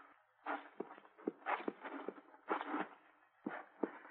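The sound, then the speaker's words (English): A horse is walked at an easy pace after running, its hooves making a steady, unhurried clip-clop on hard ground. The steps are fairly quiet and even, with no voices over them. “Hey, boy, you better walk that horse.”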